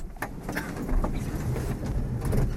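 Busy station ambience with a steady low rumble of rail traffic and scattered clanks and knocks, fairly loud and continuous, no voices standing out.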